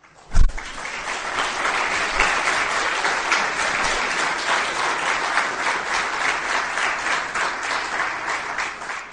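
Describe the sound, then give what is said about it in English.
An audience claps steadily for about nine seconds at the end of a religious lecture, a dense, even wash of many hands at a fairly loud, constant level, opening with a sharp thump before the applause settles in. “But from tomorrow, no clapping.”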